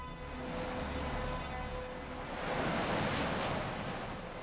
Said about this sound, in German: Es rauschte. Wahrscheinlich stand Onkel Titus unter der Dusche.